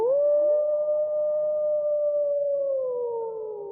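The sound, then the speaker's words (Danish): A single long wolf howl, rising quickly then holding a steady, slightly wavering pitch before sliding gently downward as it fades, clear with no talking. “Nå, lille ulv. Lille bitte ulv.”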